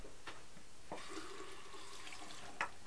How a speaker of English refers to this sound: Let me wash your toothbrush now.